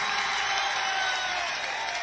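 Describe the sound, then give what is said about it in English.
A concert audience cheers and claps for itself in a dense, steady roar that holds at an even, loud level for about two seconds, with no single voice standing out. “You can give yourselves a louder one than that.”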